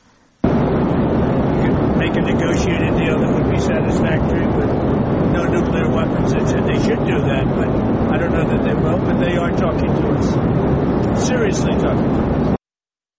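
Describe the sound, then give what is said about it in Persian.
A loud, steady roar of airplane cabin engine noise fills the whole stretch without letting up, with a muffled voice talking faintly underneath it: Mr. Trump speaking while aboard an airplane. “به خاطر کیفیت صدایی که از آقای ترامپ پخش شد، به خاطر این هست که ایشون در هواپیما بودن و کیفیت صدا بود.”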